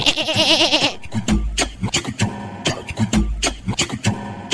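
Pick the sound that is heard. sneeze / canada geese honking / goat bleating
goat bleating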